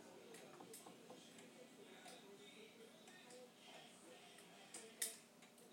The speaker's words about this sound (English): Well, it's ticking, but sometimes it doesn't tick very strongly. I just got the pendulum.